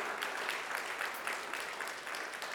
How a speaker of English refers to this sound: In fact, for those here in the worship center, can we just give a round of applause to let the other people know that we're all gathered together here? There we go.